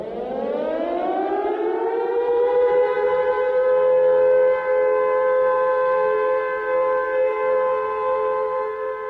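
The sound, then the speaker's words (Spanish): An air raid siren in Prague, sounding across the Czech capital shortly after noon on Ash Wednesday near the end of the Second World War, winds up from a low pitch to a sustained, loud wail that holds steady for several seconds, with no voices present. “El día del miércoles de ceniza, poco después del mediodía, las sirenas de alarma empezaron a sonar en toda la capital checa.”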